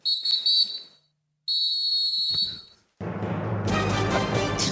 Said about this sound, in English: It's the soccer whistle, that three-prong whistle, and it's a wrap on the World Cup.